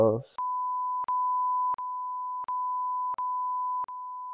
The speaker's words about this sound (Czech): Když tak to pípneme.